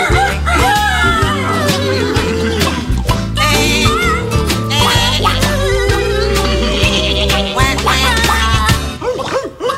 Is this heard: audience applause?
no